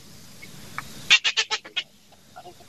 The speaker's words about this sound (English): That's shore birds and stuff I'm hearing in the background? Yeah, yeah, shore birds and a black belly whistling ducks. Whistling ducks and phalaropes. Black belly whistling ducks.